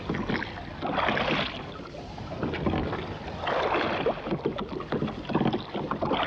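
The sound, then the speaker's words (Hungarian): Oars of a small boat splash and churn through rough, choppy sea water in repeated, rhythmic strokes, fairly loud, with a steady wash of wind and waves underneath. No one speaks. “És most eveznem kell, ahol csak tudok, nehogy elsodorjon a vitorlás, ha megindul a tenger államlattal a nyílt víz felé.”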